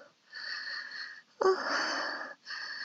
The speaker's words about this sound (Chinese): 呼吸还带着喘息声的我，羞得满脸粉红